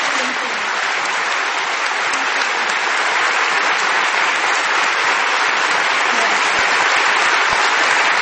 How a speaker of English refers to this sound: The crowd at the Sydney Writers' Festival cheered and gave her a standing ovation.